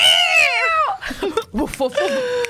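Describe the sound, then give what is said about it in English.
A person loudly imitates a screaming feral cat: a long, strained yowl that bends and wavers in pitch, followed by a few shorter, choppier wails. “And you're screaming like a feral cat.”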